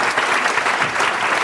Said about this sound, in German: Dein Applaus.